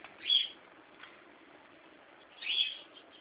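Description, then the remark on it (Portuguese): Two loud, harsh screeches from a scaly-headed parrot (baitaca) ring out about two seconds apart, with a fainter squawk between them, over a steady background hiss and no talking. “Tem uns passarinhos aí, né? É, o baitaca que tá cantando forte.”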